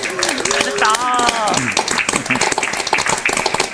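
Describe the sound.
A crowd applauds steadily, a dense wash of many hands clapping that holds at a fairly loud level throughout, with a few voices calling out or talking over it near the start.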